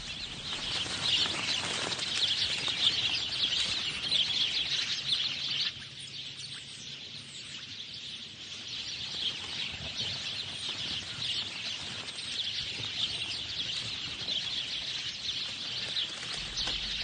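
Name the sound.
sparrows chirping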